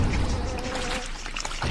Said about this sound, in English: Oh my god, there's another waterfall? Jeez, man.